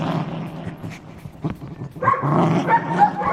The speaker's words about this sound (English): We've got a lot of dogs going on here.